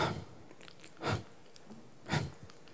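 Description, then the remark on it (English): A voice imitates shallow panting, showing someone always panting and taking shallow breaths: three short, breathy puffs of air about a second apart, evenly spaced and moderately loud, with quiet gaps between them and no speech. “That you're always just panting and taking shallow 그런 breaths.”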